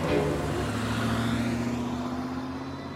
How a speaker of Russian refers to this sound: Сел в машину и уехал.